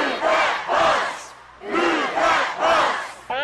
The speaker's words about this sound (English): Now, if this were Extreme Makeover College Edition, this is when people would start shouting.